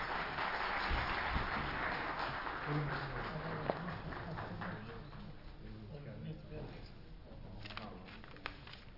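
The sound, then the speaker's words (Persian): An audience at a conference applauds the members of the scientific committee in a dense, steady wash of clapping that is strongest at first and gradually thins out, with murmuring voices audible underneath. “اعضای محترم کمیته علمی رو تشویق بفرمایید”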